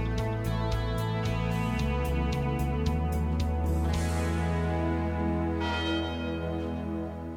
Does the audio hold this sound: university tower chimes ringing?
yes